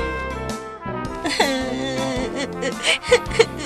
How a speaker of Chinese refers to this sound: 宝宝，乖，不要哭哦。怎么啦？告诉妈咪啊。